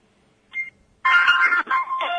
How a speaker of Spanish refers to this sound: Bueno. Mientras suena el teléfono, bueno.